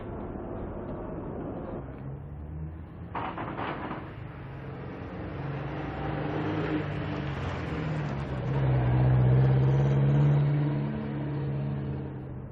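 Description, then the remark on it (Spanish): A car engine hums steadily, then rises in pitch as the vehicle accelerates, growing louder and revving near the end. No voices, just a continuous motor drone. “El coche está fuera.”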